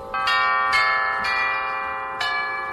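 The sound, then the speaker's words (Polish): Real tubular bells built into a Laukhuff pipe organ, not electronic, struck about five times in an uneven sequence, each bright metallic tone ringing on and overlapping the next, fairly loud with no voices. “Te dzwony rurowe rzeczywiście są w tych organach, tak?”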